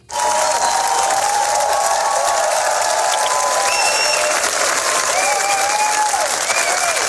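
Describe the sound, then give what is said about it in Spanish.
A large audience at a film premiere in Cannes applauds continuously in an ovation of more than ten minutes, a dense, steady roar of clapping with scattered cheers and whistles riding on top, loud and sustained throughout without any talking. “Más de 10 minutos de ovación.”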